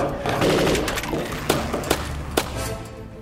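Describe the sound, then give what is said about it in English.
Sharp gunshots from atop a fire truck, shooting attackers climbing its side, crack out over a constant noisy rumble, three or four distinct bursts spaced unevenly about half a second apart, loud against the churning background. “One by one, a new one would figure out a way to climb up the side of the fire truck, and we would shoot it off.”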